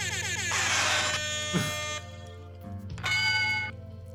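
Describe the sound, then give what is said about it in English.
An air horn sound effect blares twice, a long loud brassy blast followed after a short gap by a briefer one, with a low droning tone sustained underneath throughout. “Wait, where's the horn?”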